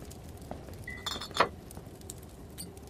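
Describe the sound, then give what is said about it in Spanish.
Glass clinks in a few bright, ringing taps as cognac is poured, with one sharper knock near the middle, over a low background hum. No one speaks. “¡Trae el coñac del estante!”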